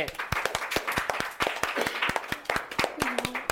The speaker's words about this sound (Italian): E allora un super applausone!